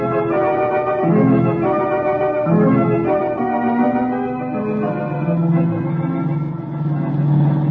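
A loud, continuous car engine roar with a whining, harmonic drone that surges and shifts in pitch several times, the car being pushed to all it can take at speed in a chase, with no voices over it.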